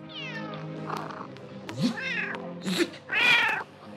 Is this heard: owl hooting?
no